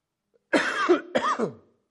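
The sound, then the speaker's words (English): Two harsh, chesty coughs in quick succession, fairly loud, with no talking around them. “Based on my cough, I could die any day.”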